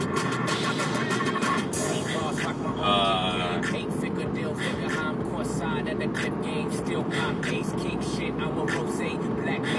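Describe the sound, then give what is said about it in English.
Steady, loud road rumble from a moving car driving on the road in poor weather fills the whole stretch, with a voice talking over the engine and tire noise. “I'm kind of coming to grips with how to drive a car.”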